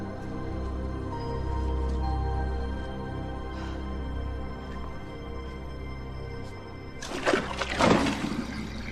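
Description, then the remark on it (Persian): A low, steady rumble and hum of water moving through plumbing, then a sudden louder gush and splashing surge near the end before it fades back down. “چیزی نیست، صدای لوله‌های آبه.”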